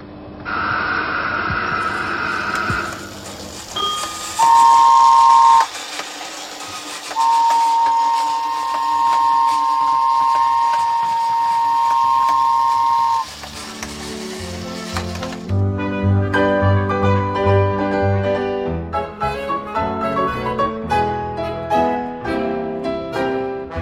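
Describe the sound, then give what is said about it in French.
An automatic RER ticket machine whirs and clatters as it prints after the work-card button is pressed, then gives a short electronic beep and a long sustained tone, before music begins over it. No one speaks. “On marque où est-ce qu'on va et puis après quand c'est marqué, ben on appuie sur le bouton de la carte de travail puis il y a le prix qui sort.”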